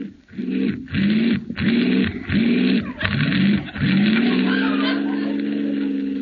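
An old car engine, being started again, cranks with five or six rough, rhythmic lurches, then catches and settles into a steady, throaty idle. Loud, with no voices.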